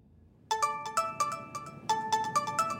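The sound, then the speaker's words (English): A phone rings for Grubhub's Mike Evans in May 2020, a call from Uber CEO Dara Khosrowshahi, with a bright electronic trill, steady high tones pulsing in quick repeated bursts after a brief quiet start, loud and alone with no talking. “Grubhub's Mike Evans gets a phone call.”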